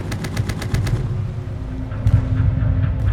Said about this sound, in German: Viel geschlafen wurde diese Nacht nicht. Geschützsalven, Maschinengewehrgeknatter und unsichtbare Flugzeuge am Himmel.